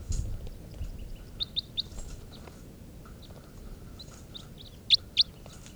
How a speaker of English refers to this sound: Test recording here, bird 437. As wild birds come in. 437.